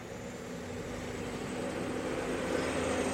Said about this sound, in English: You guys see I'm at a car wash? What the hell?